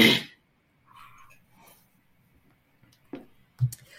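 Someone clears their throat in a few short, rough bursts, with quiet pauses between them and a final gruff rasp near the end.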